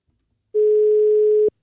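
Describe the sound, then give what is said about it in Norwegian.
A single outgoing-call ringing tone, one steady mid-pitched beep lasting about a second, clear and fairly loud, with silence on either side and no voices; a telephone call being placed to the daily manager of Arendal og Omegn Golfklubb in Arendal. “Vi tar en telefon til daglig leder”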